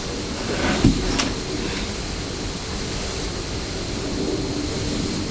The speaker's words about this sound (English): What can you hear? A plane. A plane? Can I see it? No, you can't see it.